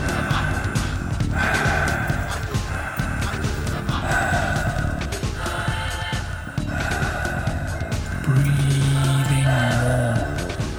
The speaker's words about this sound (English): Breathing more strongly as we get close to the peak now, really giving it your full commitment. Be here now with the breath. Make this breath count.